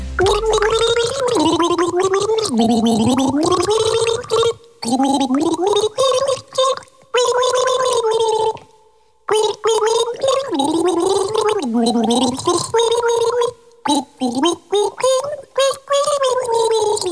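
Someone gargles a mouthful of water while voicing a wavering tune, the bubbly rattle running through a rising and falling melody, broken by a few short pauses for breath.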